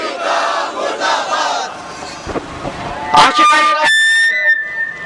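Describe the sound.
A large crowd chants protest slogans against America and then against Israel, repeating "murdabad", in loud unison, voices rising and falling in rhythmic bursts, with a shrill sustained tone cutting in near the end.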